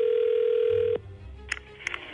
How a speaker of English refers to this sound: We're calling right now. It's ringing through. Here we go.